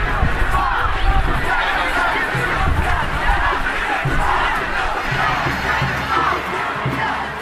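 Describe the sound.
A large protest march crowd of about 200,000 people in the streets of Montreal on 22 March 2012 chants slogans against the tuition fee increase, a steady, loud roar, voices overlapping continuously with rhythmic swells of collective chanting throughout.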